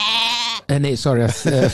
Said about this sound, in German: Das war die Ziege.